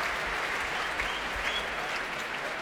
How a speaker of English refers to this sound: That's the applause for tonight's leader of the orchestra.